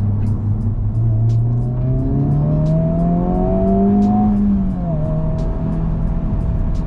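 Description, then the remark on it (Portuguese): A Honda car engine revs steadily and loudly, its pitch climbing, then dipping sharply with a quick gear change made at the shift light before pulling again at a steady drone. “É um carro muito impressionante.”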